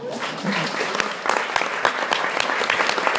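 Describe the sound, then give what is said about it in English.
A packed theatre audience claps steadily on the opening night of the play I Can't Even, a dense patter of many hands with sharp individual claps popping out, sustained and fairly loud throughout, with no talking over it. “The next stop was opening night, and judging by the packed audience and the applause for I Can't Even, the play was a terrific success.”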